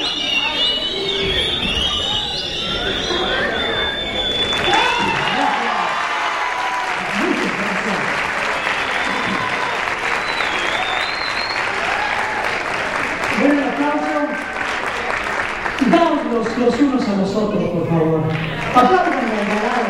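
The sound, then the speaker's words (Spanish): An audience claps and cheers on cue as the host comes back out, continuous for the full stretch, dense and loud, with scattered whistles and shouts rising above the applause toward the end. “Me voy a meter y cuando yo vuelva a salir, aplauden.”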